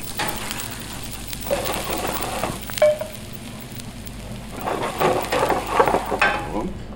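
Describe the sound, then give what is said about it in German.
Steady crackling sizzle of diced onions sautéing in butter, with bursts of scraping and stirring that grow busier toward the end. No one speaks. “Jetzt nehmen wir nichts weiter als ein paar Zwiebelwürfel. Ein bisschen Butter anschwitzen, hell anschwitzen.”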